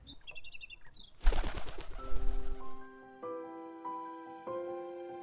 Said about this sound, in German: Gustav beobachtet die Amsel, als sie ihre Schwingen ausbreitet.